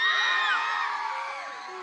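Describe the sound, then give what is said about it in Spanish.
A large group of schoolgirls shouts together in a loud, sustained collective yell at a feminist school event, answering whether they have ever felt afraid walking home alone; many pitches overlap and slide, fading slightly toward the end. “Chicas, quiero que gritéis si alguna vez, como han dicho los compañeros y compañeras, habéis sentido miedo al volver a casa solas.”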